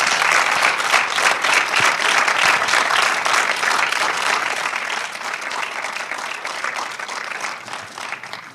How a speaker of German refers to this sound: Und zwar als erstes, ihr habt gerade den Trailer gesehen von Endzeit, ist hier die Regisseurin Carolina Helsgard und die Autorin Olivia Fiewig. Bitte einen Applaus.